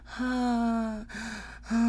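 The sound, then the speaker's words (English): A breathy voice lets out three drawn-out groans with gasping breaths between them, fairly loud and sustained, with no words spoken. “Panting, groaning.”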